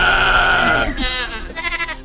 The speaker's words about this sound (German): Aus dem Hintergrund hört man eine Ziege, die garantiert nicht Zieglinde ist.